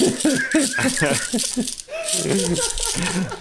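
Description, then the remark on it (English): Three Jim Beam glass liquor bottles shaken together, giving a continuous bright clinking rattle for a few seconds, heard under overlapping voices and some laughter. “I had Jim Beam deliver three bottles to my door 5 minutes before this podcast, and it took me about 2 full minutes to answer the door.”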